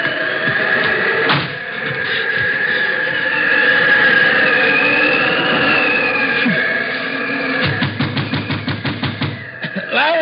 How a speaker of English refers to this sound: I went around to the back trying to get away from the wind, but it wasn't any good. There wasn't anywhere to get away from it.